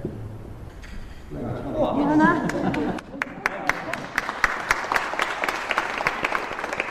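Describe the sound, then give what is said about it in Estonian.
Brief talking gives way to audience applause as a glass cylinder is opened, many hands clapping in a quick, irregular patter that grows fuller and keeps going steadily to the end. “See aplaus tähendas nüüd seda, et silinder saate lahti.”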